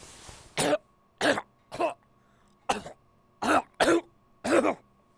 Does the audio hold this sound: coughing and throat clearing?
yes